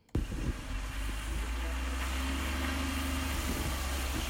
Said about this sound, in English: A bus approaches the stop at Loyalist College. At this time of year, it would normally be nearly empty. This week, however, it is full of students.